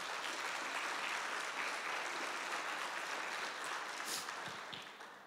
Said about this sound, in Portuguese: Pode aplaudir a Deus.